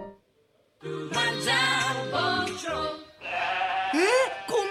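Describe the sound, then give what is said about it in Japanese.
Several running sheep bleat loudly, their wavering calls overlapping in a dense chorus after a brief quiet start, pausing briefly before another burst of bleats. “羊が 走る。アヒル、 牛って大きい。”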